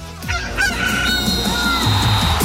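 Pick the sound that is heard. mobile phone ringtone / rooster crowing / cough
rooster crowing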